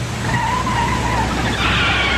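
A car brakes hard as its driver, who was typing on a phone, brakes; its tires let out a sustained, high-pitched screech that wavers and rises near the end, loud over a low engine rumble.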